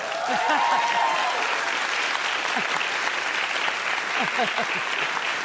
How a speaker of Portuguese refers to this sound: Eu reconheço esse aplauso como uma demonstração de amor. Mas quem ama exige pra caramba também.